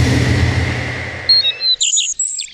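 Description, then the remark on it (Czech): Birds sing at dawn in bright, high chirps and quick trills that take over as a dense, rumbling wash of noise fades away. The calls are clear, with no voices. “Kde se jsem se domníval, že za rozbřesku raní jíder, ptáci vítejí zpěvem příchod slunce a světa.”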